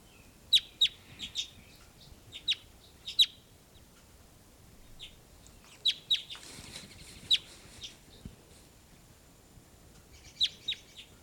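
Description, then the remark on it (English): Recorded bird calls played back: sharp, high chirps in short clusters of two or three, repeating irregularly over a quiet, low rumbling background with no talking. “Just played her back, and here's your louder calls.”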